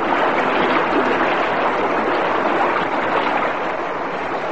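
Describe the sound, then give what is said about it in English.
A loud, steady rush of gushing water inside a submarine blends into a broad hiss as the sub is pumped full of air, continuous for several seconds without pause or break, with no voices. “Suddenly, as I drove my aching, oxygen-starved body past the now prone form of the depth controller, there came a sound of rending metal, a gush of water which was instantly replaced by a loud hissing.”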